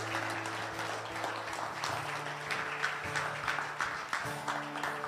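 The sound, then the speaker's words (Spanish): An audience claps steadily for several seconds in applause to God, a dense, continuous patter of many hands over a low sustained organ-like hum, with no voices standing out. “¿Cuántos pueden decir amén a esto y darle un aplauso a nuestro Dios?”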